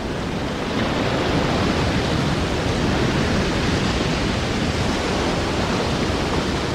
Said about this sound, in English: Imagine the storm surge.